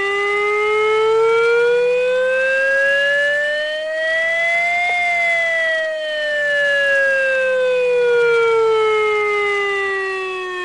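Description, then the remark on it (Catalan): A loud civil defense warning siren, installed on the Castell Vell hill or at Punta de Canyó in Flix, sounds during a siren test, wailing steadily, its pitch slowly rising to a peak around the middle and then gliding back down, with no voices over it. “A Flix, concretament, sonaran les sirenes instal·lades al turó del Castell Vell i també a la Punta de Canyó, i ho faran d'aquesta manera.”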